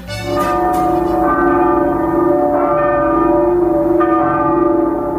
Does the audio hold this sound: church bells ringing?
yes